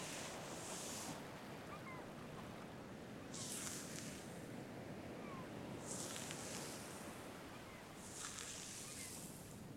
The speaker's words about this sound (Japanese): 波の音と鳴き声、落ち着く？